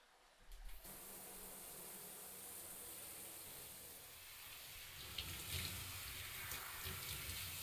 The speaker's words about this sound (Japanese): わかった。じゃあ流してくね。 シャワーシャワー。